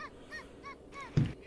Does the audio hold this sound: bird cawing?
yes